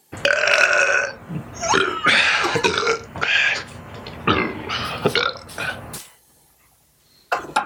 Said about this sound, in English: Yeah, the first burp wasn't that funny. The fourth one was really funny. Yeah, right. You're right, yep. And the uhs between it. Yeah. He shotguns beer well.